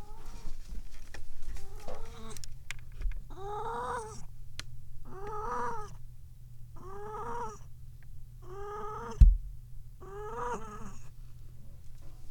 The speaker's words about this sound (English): Oh, kitty noises. Kitty in the box.